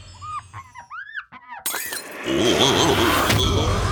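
Squeaky, whistling chirps give way to a sudden crash as a glass bottle falls and shatters, followed by a loud, sustained clatter of breaking glass.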